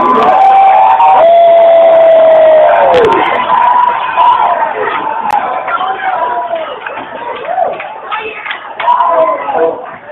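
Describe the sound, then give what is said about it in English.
An audience shouts praise loudly, many voices rising together in a sustained roar of cheering and whooping, with a few high drawn-out cries standing out above the crowd. “But you shout out loud, not the door.”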